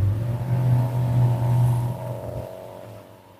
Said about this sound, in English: Guys mowing lawns, as you can probably tell, that's the whine of a weed whacker.